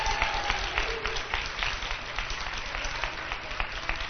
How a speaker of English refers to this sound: So did the other assistant principals. And I just want to applaud them.